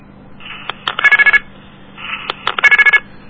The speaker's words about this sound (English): Boy, that was 2/4 tones. That adds up to 50 cents.